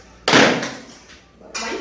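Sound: door being opened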